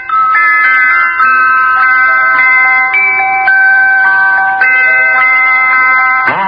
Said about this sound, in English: And by that evening, I'd made a beautiful little cooking pot. It had little bells all around it. And when the pot boiled, it played a little tune.